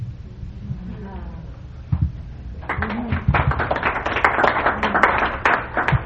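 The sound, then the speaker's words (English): After a few seconds of low murmuring, an audience breaks into clapping, a dense, steady patter of many hands that grows fuller and stays fairly loud to the end. “Yeah, just really don't have to clap.”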